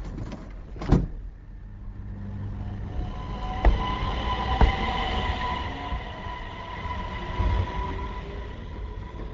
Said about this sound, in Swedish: Ja, då gick det iväg tåget. Det var grönt. Signalen nu växlade till rött där, så jag är där borta.